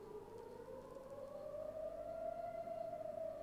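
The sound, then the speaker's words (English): A civil defense rocket alert siren wails steadily, its long tone slowly rising in pitch across the open air, with no voices present, warning that a rocket is on its way to Tel Aviv. “Okay, I have a siren going off. And that means that a rocket is on its way to Tel Aviv.”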